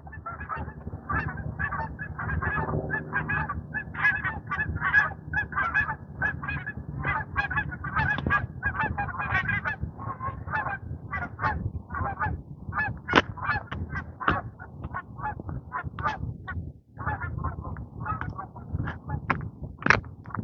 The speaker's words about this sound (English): hearing it echo off the houses, so I don't know what direction they're coming from, but I hear the geese. Now, there they are.